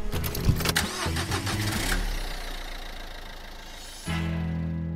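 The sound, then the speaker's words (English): In the car park of the Caulfield Bears, a car engine cranks with rapid clicking, catches, and settles into a steady running rumble, fairly loud, with a brief shift in the engine note near the end and no talking. “We're just in the car park of the Caulfield Bears.”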